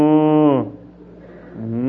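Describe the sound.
A person imitates a cow with a low, drawn-out grunting moo, fairly loud, which breaks off briefly and then starts up again toward the end.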